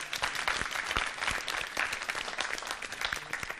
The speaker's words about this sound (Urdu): ان تینوں ٹیموں کی حوصلہ افزائی کیجیے گا زوردار تالیوں کے ذریعے.